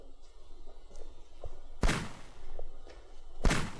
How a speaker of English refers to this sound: Gunfire going off. Okay, so you go toward the gunfire.